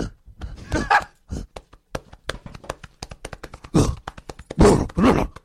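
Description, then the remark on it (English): A person imitates a gorilla, pounding their chest and letting out throaty grunts and hoots between quick, sharp thumps. The vocal bursts are loud, with the taps scattered irregularly throughout. “On your chest and act like a gorilla for the next minute. Yeah. Just start making monkey noises.”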